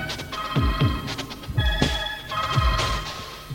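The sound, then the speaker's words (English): An electronic telephone ringtone chimes in a repeating pattern of bright, steady tones, fairly loud, over deep thudding pulses that drop in pitch. No one speaks. “No, don't get violent with the phone.”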